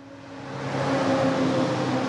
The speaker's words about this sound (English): A logging truck passes. The highway is reopened now.